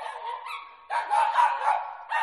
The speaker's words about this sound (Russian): Я проснулся от лая соседской собачки. Гнусная тварь.